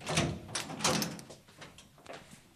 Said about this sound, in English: So I'll just unlock the door.